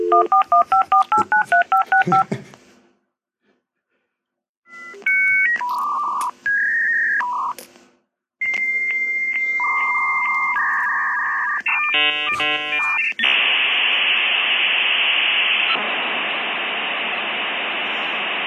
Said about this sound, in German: Ja, 56K ist ein wunderschöner Sound. Das ist so auch so einer von diesen Sounds, die einfach aussterben, leider.